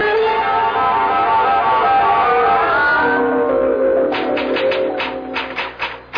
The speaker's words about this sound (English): Oh, I'm typing your letter to the President of the United States and a copy for the Premier of the Soviet and the Prime Minister of China.